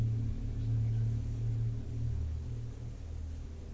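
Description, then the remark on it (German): A steady, low rumble of road traffic drones on without a break, a deep engine hum that rises and falls slightly in loudness, with no voices present. “Da ist der Verkehr.”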